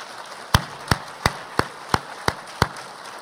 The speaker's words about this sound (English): And I just want you all to give your bishop a round of applause and say thank you.